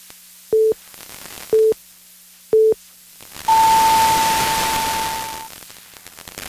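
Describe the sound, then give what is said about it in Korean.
Three short, evenly spaced beeps one second apart, then a longer, higher-pitched tone lasting about two seconds over a wash of static, the classic radio hourly time signal with no voices, marking 11 o'clock on KBS Chuncheon 1 Radio. “한국인의 통신 채널 KBS 제1라디오가 잠시 후 11시를 알려드립니다.”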